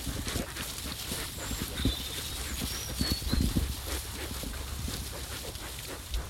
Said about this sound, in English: And here they are snuffling around in their pig pen.